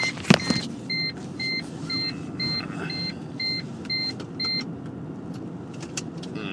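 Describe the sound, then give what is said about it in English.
A sharp click of a car seat belt being fastened inside a car with a low engine rumble, followed by a steady run of about ten high electronic warning beeps that stop partway through. “I better put on my my car seat belt.”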